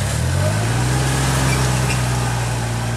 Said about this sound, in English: Suddenly, a worker jumps on a tractor and begins to till right over his flowers.